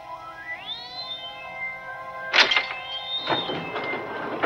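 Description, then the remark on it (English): A sliding jail cell door grinds open with a rising, tonal metallic screech that holds steady, then a loud clank lands about halfway through, followed by rattling scrapes as the door keeps moving. “The door slides open.”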